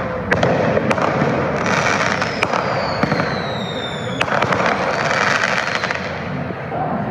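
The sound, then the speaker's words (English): Fireworks, mostly mortars, set off at random in and around a crowd in front of the Justice Center at around 9:30 p.m., bursting repeatedly amid a dense, roaring crowd din, with sharp cracks at irregular intervals and a rising whistle streaking overhead, loud throughout. “People were setting off fireworks, mostly mortars, at random in and around the crowd.”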